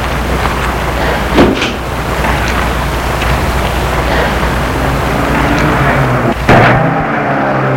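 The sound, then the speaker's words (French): A woman gets into a black car; the car door shuts with a solid thud near the end, after an earlier softer knock, against steady, rushing outdoor noise like wind or surf. No one speaks. “Arrivée vers la voiture, elle entre dans la voiture.”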